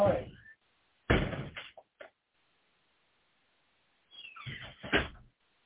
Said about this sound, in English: I'm going to shut this door now.